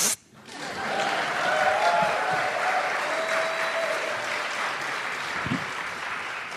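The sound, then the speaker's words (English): Sustained audience applause for the first guest being introduced, a dense, even wash of clapping that starts abruptly and holds steady for several seconds, with faint cheering voices mixed in. “Please, a round of applause for...”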